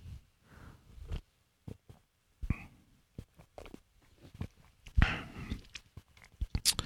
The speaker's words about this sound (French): Celle-là, j'en ai goûté une gorgée tantôt, mais je vais la regoûter devant vos oreilles, puis je vais vous en parler un petit peu.